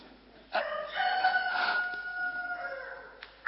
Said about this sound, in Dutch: En toen kraaide de haan.